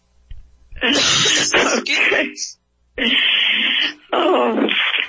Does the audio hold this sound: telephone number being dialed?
no